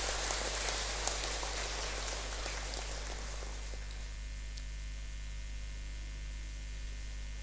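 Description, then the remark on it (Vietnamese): A dense burst of many hands clapping, applause in praise of a scholarship program for monks, nuns and students, rolls on for about four seconds, then dies away, leaving a steady electrical hum with no voices. “Mong quý vị hoan hỷ theo dõi sự cập nhật này để vui mừng chung cho chương trình cúng dâng học bổng cho các thầy các sư cô, và tặng học bổng như là chưa được là nửa phần cho các sinh viên, cho một tràng vỗ tay thật lớn để tán dương.”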